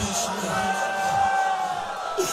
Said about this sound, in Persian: دارم صدا گریهاتون رو میشنوم